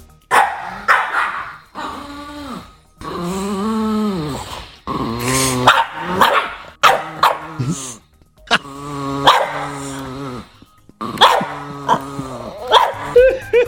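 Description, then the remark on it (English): Two dogs, Winslow and Frankie, sound off, Winslow giving sharp repeated barks while Frankie lets out long, strange, warbling growls and howls, the noises overlapping in bursts with brief pauses between. “The barking will be Winslow, and the otherworldly sound, the demon from hell sound, yes, will be Frankie.”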